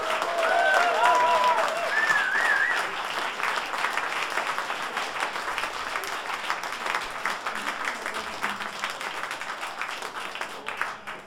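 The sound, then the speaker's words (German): Sustained applause from an audience at a jazz club, for the instructors of a three-day event: a dense wash of many hands clapping that stays loud throughout, with a few brief whistles or cheers in the opening seconds. “Vielleicht mal einen herzlichen Applaus für diese.”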